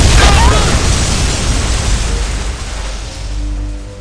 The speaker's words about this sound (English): The explosion is coming now, and nothing can stop it!